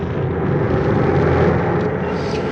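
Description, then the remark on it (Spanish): A steady, loud roar of jet engines, broad and rumbling with a whooshing high end, holding constant throughout as a large airliner taxis toward its assigned runway for takeoff at Istanbul International Airport. “El gigantesco jet inicia la maniobra para el despegue, enfilando nariz hacia la pista señalada en el Aeropuerto Internacional de Estambul.”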